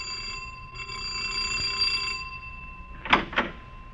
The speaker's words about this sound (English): Our scene is a fashionable home in the suburbs of New York. A young woman of great poise and beauty is about to answer the insistent ring of her doorbell, unaware that her unexpected visitor is accompanied by death.